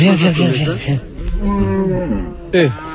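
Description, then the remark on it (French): Large horned cows low repeatedly, long harmonic moos overlapping from more than one animal, with a final loud moo starting near the end. “Ah, c'est, elles sont immenses ces vaches.”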